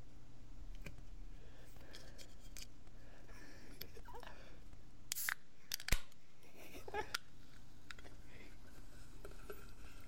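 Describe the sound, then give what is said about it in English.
A can of Coke being opened: a brief fizzy burst followed by a sharp metallic snap, fairly quiet over a steady low background hum, with a few small scrapes and clicks around it. “I don't know if you heard that, but I did open the Coke.”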